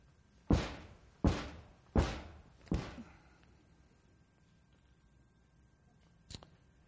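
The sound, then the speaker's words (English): Four sharp hammer blows on tiny finishing nails being driven into paneling, evenly spaced and slightly fading, each with a brief ringing tail, followed by a long pause and one softer, quicker tap. “For instance, here's how a body would work if you're putting up paneling with those little microscopic finishing nails.”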